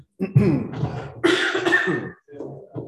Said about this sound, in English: Every time I cough, you should say, Selah. which means stop and think. So I can cough and you can think about what I'm saying.